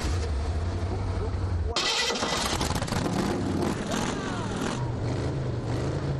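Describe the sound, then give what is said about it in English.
A low idling rumble gives way to a sudden loud roar as the engines of two heavy dozing machines fire up at the start of a competition and keep growling and revving together, harsh, with voices faintly mixed in. “Gentlemen, you can start your engines.”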